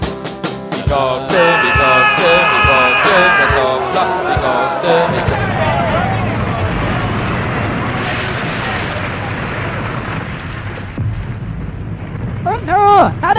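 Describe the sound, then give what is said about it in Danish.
Loud, distorted noise from someone playing with amplifiers: sharp crackling thumps and a sustained buzzing whine give way to a roaring wash of static, ending in rising and falling warbling tones. “Stop playing with the amplifiers!”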